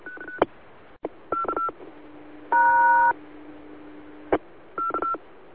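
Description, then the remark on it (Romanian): A timer tone cuts in over a radio transmission as a string of short electronic beeps, a longer steady buzzing tone mid-way, and sharp clicks, all over a faint constant hum with no talking. “Să repezi ce ai spus pentru că a intrat peste tine timerul.”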